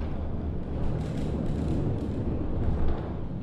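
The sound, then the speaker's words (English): A rooftop observatory dome rotating to give a 360-degree view, heard as a steady, loud, low mechanical rumble and grinding drone that runs continuously without pause, with no voices over it. “He closed the door behind me, and then the noisy rotation of a 360-degree rooftop view began.”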